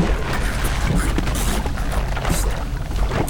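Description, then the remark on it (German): Steady sloshing of water with soft, irregular splashes as two divers slowly push themselves up out of the water through a hatch. “da hörten die drei Fragezeichen von der Luke her ein leises Platschen. Langsam schoben sich zwei Taucher aus dem Wasser.”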